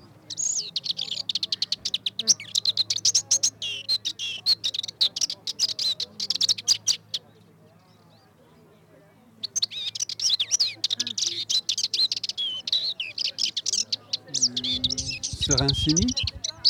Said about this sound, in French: Serincini, non ? C'est une fauvette mélanocéphale probablement, fauvette pitchou. Non. La passerinette ? C'est la passerinette.